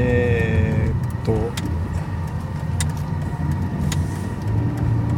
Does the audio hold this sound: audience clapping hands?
no